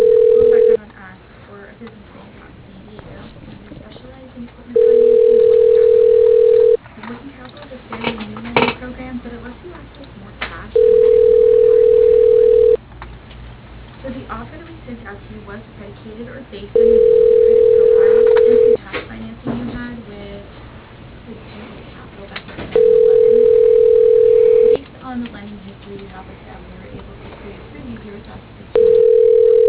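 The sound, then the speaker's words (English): A phone ringback tone repeats steadily as a call to a business goes unanswered, with no voicemail picking up: about five loud, steady two-second rings separated by four-second gaps, with faint background murmur between them. “See, like, usually they answer pretty quick too. But, like, sometimes with those phones, they just drug on.”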